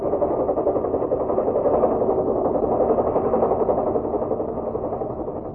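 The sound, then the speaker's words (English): A helicopter engine drones steadily with a dense, rumbling mechanical roar that swells slightly before easing off a little, with no voices, as a helicopter comes into San Borja at night to land at an emergency field on the other side of the mines. “Well, the fields in San Borja make it tough for a plane, but for a helicopter, that's another thing.”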